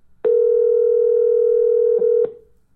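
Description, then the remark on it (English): A steady, loud telephone dial tone holds one pitch for about two seconds, starting and stopping with sharp clicks, with no voices over it, heard while calling a caller back after the line went blank and got disconnected. “Maybe he just got disconnected. Try him back. You got his phone number.”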